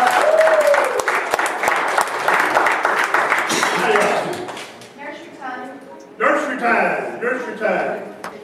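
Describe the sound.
A crowd claps loudly in a dense, steady patter for about four seconds, then the applause thins out and fades as a voice begins speaking.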